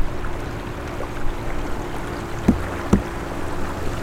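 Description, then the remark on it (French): A boat moves steadily on the Loire river, a low continuous wash and hum with two brief knocks or splashes near the end, with no talking. “Pour lui, être ici, sur un bateau sur la Loire, est l'aboutissement d'une vie passée le long du fleuve.”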